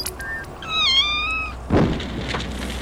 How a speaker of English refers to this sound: Listen in wonder as I program the resonator to create some of the strangest sound effects ever heard on British radio. Right, what should we start with? Perhaps the sound of a kitten on fire.